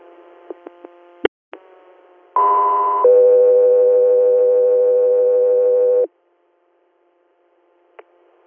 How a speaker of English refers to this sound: stand by for tones.